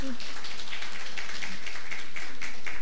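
An audience at a church worship service applauds to welcome a baby, a dense, steady patter of many hands clapping at an even level for about three seconds.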